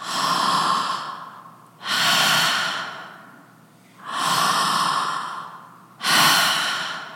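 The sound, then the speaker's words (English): A voice imitates heavy, rasping breathing: four long, loud breaths alternating in and out, each swelling then fading, with a brief pause between them and no talking. “And so I bend down to hear Larry, and Larry's breathing pattern is totally different.”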